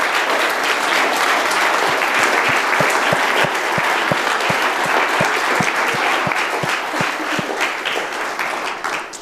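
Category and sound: crowd, round of applause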